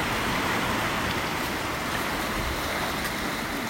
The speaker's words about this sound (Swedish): Vad är det för slags vatten det får så mycket? En å. Eller det ser mer ut som en byggd kanal just här.